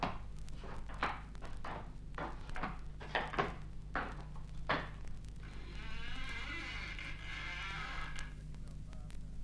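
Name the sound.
door being opened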